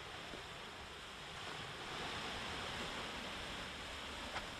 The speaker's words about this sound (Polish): O, a my, proszę Państwa, jesteśmy już nad brzegiem morza i teraz przez moment porannie, proszę posłuchać.